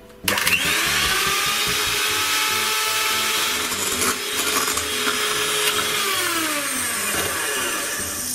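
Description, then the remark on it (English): An electric hand mixer starts up abruptly and whirs steadily at high speed, whipping chilled evaporated milk in a mixing bowl; a loud continuous motor drone with faint rattling that continues for several seconds, no talking. “And we want to whip this.”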